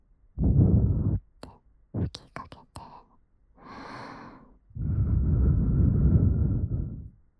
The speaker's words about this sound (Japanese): ってわけで、まずは定番の。これって、お耳に吐息を。